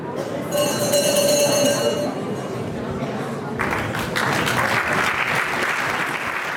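A jury rings a hand bell steadily for about a second and a half at a yodelling expert-singing event, over murmuring voices, then the ringing fades as a crowd breaks into sustained applause.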